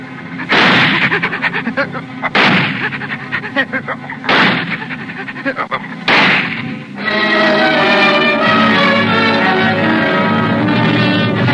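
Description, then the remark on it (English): Four loud, booming gunshots ring out about two seconds apart, each with a rumbling decay, followed by a steady, sustained harmonic drone that continues to the end. “I pointed the gun right at her head.”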